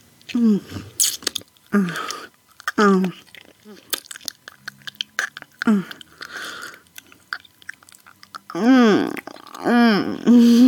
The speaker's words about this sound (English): Baby. I'm licking your cum off her pussy. I'm slurping your hot jizz off her yummy pussy while you watch.